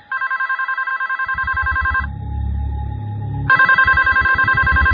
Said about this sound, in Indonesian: telepon itu berbunyi lagi. Aku yang mengangkatnya lagi.